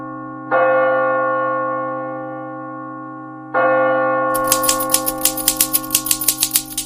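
Two ringing bell strikes, each left to hum and fade for a few seconds, are followed by a quick, uneven burst of sharp typewriter key clacks, with no voices. The typewriter was found in an abandoned home in Detroit, Michigan.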